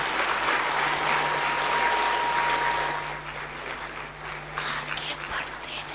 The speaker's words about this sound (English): And all of you are happy too, that's why they are all clapping, no?